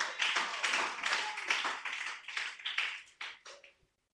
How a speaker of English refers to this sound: Are you not clapping for Jesus?